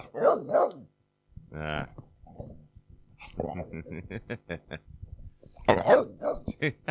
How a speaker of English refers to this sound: All right. Fucking dogs.